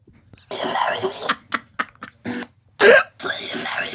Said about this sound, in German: Eigentlich ganz entspannt. So klingen Affen.